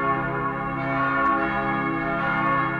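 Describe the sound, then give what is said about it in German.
The bells of St. Kunibert in Cologne ring together in a full, sustained peal, its core two baroque bells cast by Martin Legros in 1773 to a major-triad sequence; deep overlapping tones hum steadily with rich, shimmering overtones and no pauses, loud and unaccompanied by voices. “Den Kern des Kunibertgeläuts bilden 2 Barockglocken des berühmten Gießers Martin Legros aus dem Jahr 1773.”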